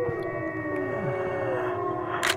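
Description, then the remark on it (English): Several people howl like wolves, heads leaned back and mouths open, trying to start a howl with wolves, their long wavering tones overlapping and sliding in pitch, fairly loud and steady throughout with no talking. “And they said, you lean your head back and you open your mouth and then you howl.”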